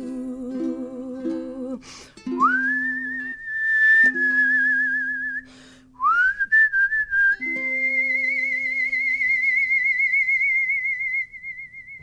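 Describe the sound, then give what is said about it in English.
A person whistles a slow melody, swooping up into long, warbling held notes over soft sustained background tones, clear with no talking. “The singing we knew we'd get, but the whistling is a nice bonus.”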